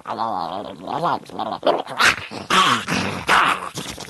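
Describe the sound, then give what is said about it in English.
A human voice imitates a ferret biting Michael J. Fox, as done for the film Bright Lights, Big City: a loud run of high, wavering squeals and sharp yipping chirps, in quick bursts with brief gaps, no talking. “I've done a lot of, I did a ferret biting Michael J.”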